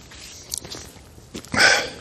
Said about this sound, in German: Ich habe mir einen Hustenbonbon reingesteckt. Das klingt natürlich nicht so gut, so in die Backe kommt das.